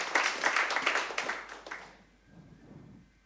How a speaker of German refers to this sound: Einen dicken Applaus.